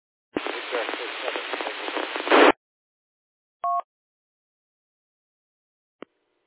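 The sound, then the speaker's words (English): About two seconds of hissy, band-limited radio static on an amateur radio net, with a weak station's faint voice barely poking through, then a short two-tone beep and a single sharp click after silence. “Okay, the first station was well into the noise there.”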